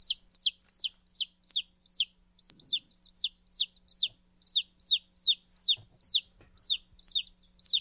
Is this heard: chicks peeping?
yes